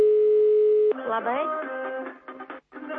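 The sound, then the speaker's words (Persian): A steady telephone dial tone hums for about a second, then gives way to a run of shifting, choppy tones as the number of another home is dialed, ending in short broken bursts. “خب کوشش میکنیم با منزل دیگر زنگ زنیم.”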